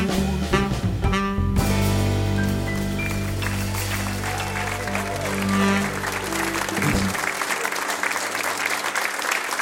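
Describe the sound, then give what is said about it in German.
An audience bursts into steady, loud applause for musicians while their final sustained chord rings out; the music stops after about seven seconds and the clapping carries on alone. “Vielen Dank und großen Applaus für diese großartigen Musiker hier.”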